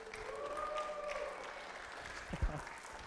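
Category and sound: crowd, audience clapping and cheering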